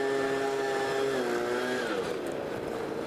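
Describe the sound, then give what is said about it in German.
A leaf blower engine roars steadily and loudly with a buzzing, harmonic whine, its pitch sagging slightly partway through as it keeps running without pause. “Der Laubbläser bläst übrigens nicht in meine Richtung, auch wenn er so klingt.”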